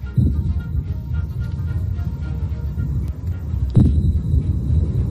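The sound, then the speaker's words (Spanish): A steady, low droning rumble from the engine of an Iranian-made attack drone during a Russian attack on Kyiv, Ukraine, runs throughout, loud and continuous, with two brief bursts of sharper noise breaking through; air-raid sirens were also going off. No voices are heard. “Escuchábamos de fondo ese sonido y cómo se disparaban también las sirenas antiaéreas.”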